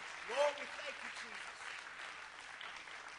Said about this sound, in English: Let's clap our hands and thank the Lord that he's our rock, our firm foundation on whom we can truly trust.